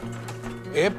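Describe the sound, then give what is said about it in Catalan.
A food printer runs with a steady, low electrical hum, then a brief rising whir of the motor near the end, moderately loud, as it prints a microphone-shaped dessert from a drawing. “Heus aquí la impressora.”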